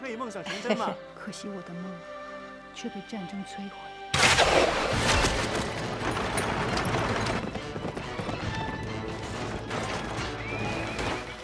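Horses gallop with clattering hooves and an occasional whinny, part of a loud, dense war film battle din with chariots and bows that bursts in after a few seconds of tense orchestral music and continues steadily.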